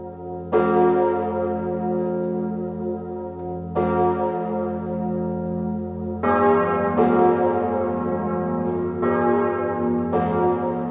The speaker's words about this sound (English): Well, so let's hear some of the music, and we'll start with the bells. The largest is known as Emmanuel, named by King Louis XIV. It is rung on its own for the most solemn of occasions, and then eventually the other bells join in.